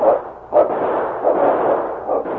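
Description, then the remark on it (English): Several gunshots from men firing at a running dog ring out at irregular intervals, each a sharp burst over a steady wash of rumbling noise, with no voices present. “With bullets streaking toward him, King cut to the side to take advantage of the meager shelter of some stunted growth and then put on an additional burst of speed.”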